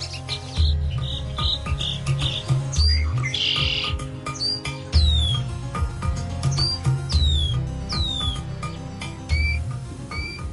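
A songbird sings in a steady run of bright chirps and quick downward-sweeping whistles over a low, continuous humming background with no voices.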